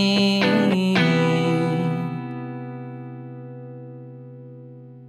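A recorded band song, played in the studio during the Wolf's Den show, comes to its end: a few sharp final hits, then a distorted, effect-heavy chord rings out and slowly fades over several seconds, with no voices.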